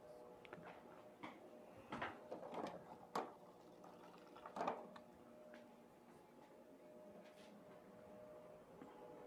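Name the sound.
drinking water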